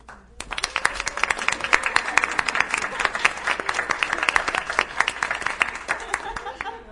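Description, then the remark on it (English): A crowd of people at a meeting bursts into sustained applause for the caterer walking in, dense overlapping claps steady for several seconds, with a few voices faintly mixed in beneath. “We can all applaud.”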